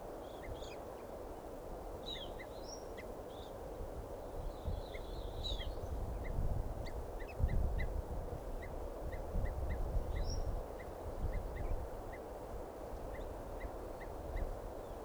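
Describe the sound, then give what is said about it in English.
Evening grosbeak calls repeat in a steady series of short, clear chirps, with a few brighter higher notes mixed in, over a low outdoor rumble; no one speaks. “Recording here the calls of an evening grosbeak.”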